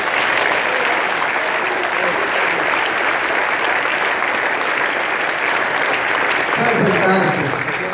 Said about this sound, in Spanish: En el nombre de Jesucristo, diga amén. Un aplauso, Señor.